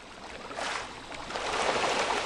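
Water churns and splashes steadily as rainbow trout thrash at the surface when feed pellets are sprayed across the water by hand, at a site near Harrietta, Michigan, holding more than 500,000 fish, the largest weighing 1.5 pounds. A dense, hissing commotion that swells louder over a couple of seconds, with no voices.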